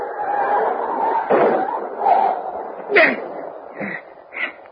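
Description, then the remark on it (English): A car hits a dog on a road in the rain: a dull impact followed by a few short, sharp yelps from the dog, over a steady low rumble like a car engine. “I didn't see him till I hit him. What was it? The dog.”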